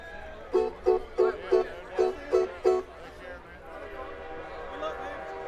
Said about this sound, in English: Hey, that train signal is a sign, isn't it? It's a sign.